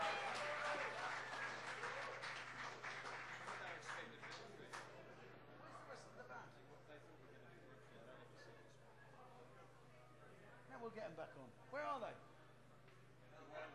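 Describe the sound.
An audience breaks into dense, crackling applause that starts loud and gradually thins out, with scattered voices and a couple of brief shouts rising over the fading claps.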